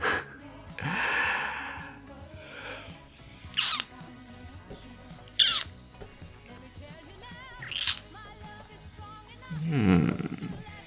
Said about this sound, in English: You're breathing harder, baby.